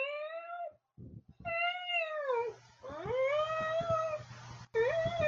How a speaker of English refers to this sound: I don't know what it is about tuna, but I've seen cats almost cry or talk.